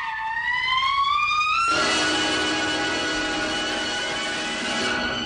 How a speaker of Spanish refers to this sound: Digo, no, no, no, empieza con el alarido ese de trompeta que está ahí, que yo creo que tú lo escuches ahora, y yo suelo decir que eso es un elefante que había tomado clases de trompeta.